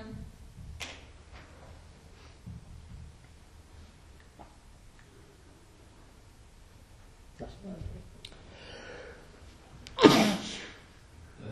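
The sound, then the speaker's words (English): A single sharp, loud sneeze bursts out near the end during a meeting, after a stretch of quiet room noise with faint shuffling and murmuring voices. “Bless you.”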